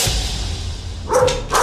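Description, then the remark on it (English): Two quick, sharp dog barks, one right after the other near the end, following a stretch of low rumbling background noise. “Okay, I gotta feed this to the dog.”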